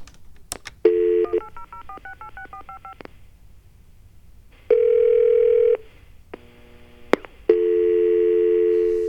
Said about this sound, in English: Wow, rings once and hangs up.